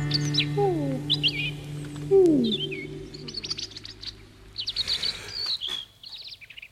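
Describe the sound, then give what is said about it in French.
Small birds chirp and twitter in quick, overlapping bursts throughout, clear, with a few lower swooping calls mixed in early on and no voices, at the end of a song recording. “Écoutons jusqu'au bout ces petits oiseaux qui m'ont poussé à enchaîner trois titres, donc grâce à eux.”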